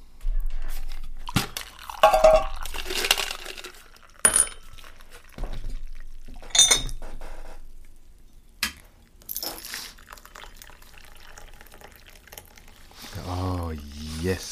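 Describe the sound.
Tea is poured into a cup in a few splashy bursts with small clinks and crunchy handling noises in between, and a voice begins speaking briefly near the end.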